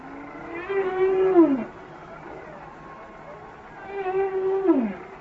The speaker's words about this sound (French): Et là, on entend des enregistrements de bruits de baleines enregistrés sous l'eau.